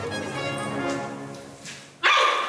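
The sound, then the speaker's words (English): A giant panda call: a nasal, goat-like bleat with a wavering tone holds for about two seconds, then ends in a sudden, loud, sneeze-like burst. No one speaks. “What do you think a majestic giant panda call sounds like?”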